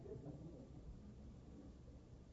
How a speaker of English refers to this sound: Where are you going to go in this rain, silly?